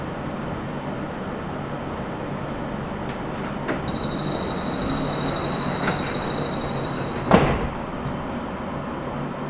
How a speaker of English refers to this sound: Doors are closing.